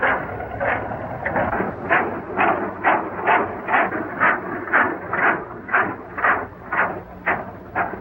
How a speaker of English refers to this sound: The cowboy watches the old-timer crank Nellie to life. Then climb aboard and get behind the wheel. Releasing the brake, the old-timer sets off.